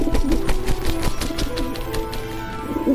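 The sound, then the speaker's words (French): A carrier pigeon coos in low, throaty burbles, with a rapid patter of light clicks and taps running underneath for the whole stretch. No one speaks. “Il vient d'où ce pigeon voyageur?”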